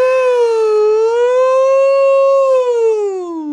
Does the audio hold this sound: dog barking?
no